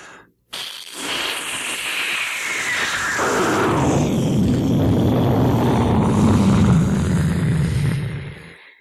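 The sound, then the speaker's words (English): A person imitating a jet plane with their voice in a studio: a rising-then-falling high whine that drops into a loud, steady, rumbling roar, heard alone for several seconds before cutting off. “What about a jet plane?”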